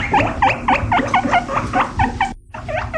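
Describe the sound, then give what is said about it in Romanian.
Guinea pigs squeak in a rapid, repeated series of high, rising chirps, about a dozen in quick rhythm, with a brief pause before the squeaking resumes. No one speaks. “Avem, uite cum fac porcușorii de Guinea.”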